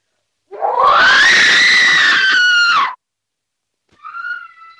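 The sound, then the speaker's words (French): A woman lets out a long, loud, high-pitched scream that rises and holds for over two seconds, followed after a pause by a shorter, shrill cry. “Si vous ne me répondez pas, je vous préviens que je crie, que je hurle.”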